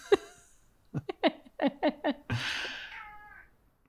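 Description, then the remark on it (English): A cat gives a quick string of short chirping meows, then one longer, strained, drawn-out meow. It is fairly loud, with no talking. “Sorry, the cat's like pawing at me again.”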